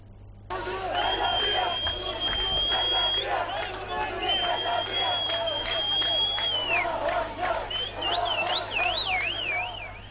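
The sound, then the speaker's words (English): A loud, continuous street crowd celebrating Iran's missile strike against Israel roars and cheers with scattered clapping, while long steady whistle-like tones sound over it and a warbling, siren-like tone rises near the end. “Iran's missile strike against Israel has sparked celebrations across the region, with hundreds taking to the streets to express their support for Tehran's show of strength.”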